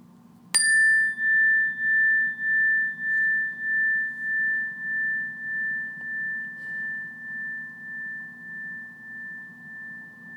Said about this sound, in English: And at the sound of the bell, we'll start off like we usually do, just by taking a few breaths in and a few breaths out and waiting for more instructions.